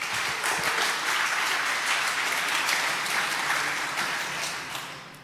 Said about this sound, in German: Applaus fürs Walk.